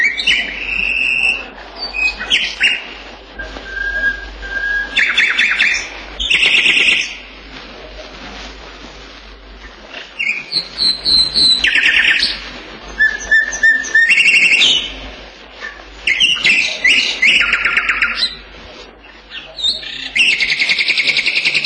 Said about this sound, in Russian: А это короткая, но весьма мелодичная песня. Эта песня записана в Семиречье, в речных зарослях, тугаях. Соловья, который сейчас поет, так и называют – тугайный.